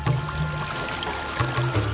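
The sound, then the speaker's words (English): Zamzam spring water gushes out of the ground in a steady, continuous rush, full, with a low rumbling undertone beneath the splashing flow and no voices. “and out came this beautiful gushing water, which is called the Zamzam water.”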